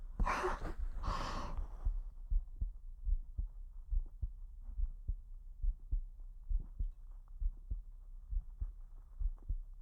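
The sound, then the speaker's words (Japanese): A muffled heartbeat thumps in a steady, moderately quick rhythm of soft lub-dub pulses, preceded by a couple of breathy exhales at the start. “なんだか緊張して、早くなっちゃいそう。心臓の音、恥ずかしかったから、このこともママに内緒よ。”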